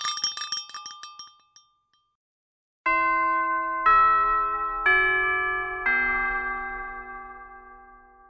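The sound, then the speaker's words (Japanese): A quick flurry of bright metallic tinkling, a short silence, then a chime rings four clear, evenly spaced tones, each one sustaining and slowly fading. Loud, with no voices. “はい、チャイムも鳴りましたので、そろそろ活動のまとめをしていきたいかと思います。”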